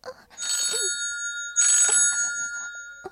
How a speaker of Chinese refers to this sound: 你看，这不是你电话吗？什么声音呢？电话声音太难听了，快接！